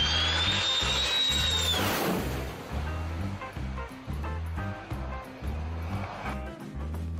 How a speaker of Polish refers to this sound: Lądujący właśnie samolot to turecki F-16, który zaraz znajdzie się bardzo blisko głów spotterów.